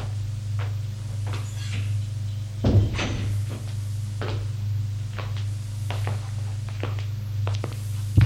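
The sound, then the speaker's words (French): A padded office door at the end of a corridor is knocked on, opened and shut, with a single solid thud partway through and a few light clicks and knocks around it, all over a steady low hum. “Enfin, au fond d'un couloir, il frappe à une porte capitonnée. Entrez. Ils entrent.”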